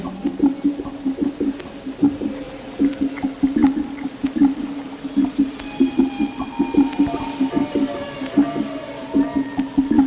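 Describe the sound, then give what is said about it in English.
Underwater whale calls drift through a steady low hum, with long rising and falling tonal cries and scattered clicks, moderately loud and overlapping throughout, no voices present. “And the screaming of the whales, you can hear them now, can you not?”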